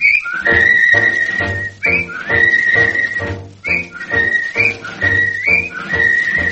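A bright whistled melody glides through a series of repeating phrases, carried clearly over a steady instrumental accompaniment with a low bass beneath it, loud throughout.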